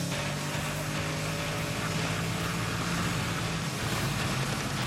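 A Shelby sports car engine drones loudly and steadily at high speed, around 120 on the straight of a track, its low hum running unbroken under heavy wind and road roar, with no voices.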